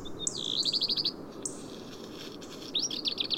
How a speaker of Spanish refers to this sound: Aparece una comunidad de pequeños pájaros en este cortado rocoso. Aunque no cantan mucho en invierno, algunos trinos resuenan en el silencio de estas cumbres.